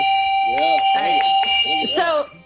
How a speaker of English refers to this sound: sorry, it's your yak bell, no cowbell.